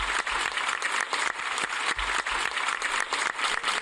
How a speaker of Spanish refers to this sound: Mira, estos aplausos significan el agradecimiento de los vecinos de Alcublas, un pueblecito de Valencia de apenas 600 habitantes, a su médico de toda la vida.